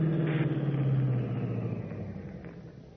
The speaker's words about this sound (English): Then, suddenly, over the deadly, piercing tone of Stark's voice, Batman is conscious of another sound, an approaching car. And Stark is silent again.